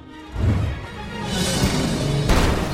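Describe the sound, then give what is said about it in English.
A heavy Renault car rolls off the road, launches off a ledge and slams down into a shallow pond with a deep, booming crash, followed by a loud, sustained rush of splashing and churning water, then a second sharp surge. “It launches off a ledge and lands in a shallow pond.”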